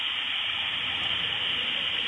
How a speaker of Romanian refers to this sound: Dau drumul la apă. Mamă, dă drumul la apă. Ca să mă și spăl în același timp. Stai așa. Că nu se aud, nu auzim apa. Stai ca să țin de ea. Umple-o. Se aude? Se aude.